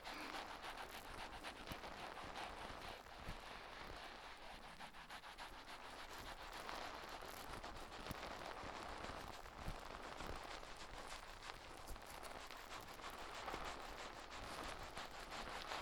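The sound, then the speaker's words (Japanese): Soft, steady fizzing crackle of tiny foam bubbles popping, a dense stream of irregular little clicks and snaps that continues throughout with no voices. “パチって小さい泡が弾ける音。”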